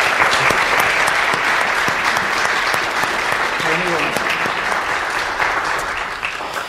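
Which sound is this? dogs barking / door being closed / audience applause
audience applause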